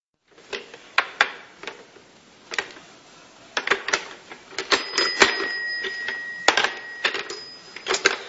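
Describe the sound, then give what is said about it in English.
A Fisher-Price toy rotary phone clatters with sharp, irregular plastic clicks, and partway through a steady high-pitched ring sounds for a couple of seconds while the clicking continues. No one speaks. “Not the Fisher-Price toy part, but the rotary phone.”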